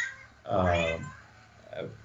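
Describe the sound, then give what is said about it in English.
A pet cat meows once, a drawn-out, rising-then-falling cry, followed by a shorter, softer meow a moment later. “sorry, my cat.”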